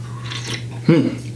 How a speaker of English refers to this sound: And the third thing, I gotta take a sip of coffee for this one, because I'm about to get amped up.